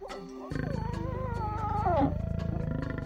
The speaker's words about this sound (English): We're listening to the sounds of one of nature's master predators, the African lion. To know what the future holds in store for the lion and other predators, we need to understand their role in their ecosystem.